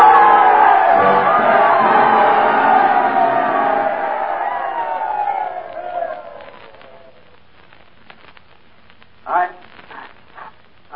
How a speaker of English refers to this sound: Then Lou came up to the microphone. He was all choked up. And the crowd rose to its feet and they told him they loved him.